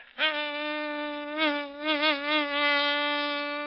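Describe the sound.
A voice imitates a mosquito flying into a grocery store and landing on a small lump of sugar, as part of a joke, with a sustained, nasal drone that wavers up and down in pitch, swooping a few times, lasting several seconds with no talking.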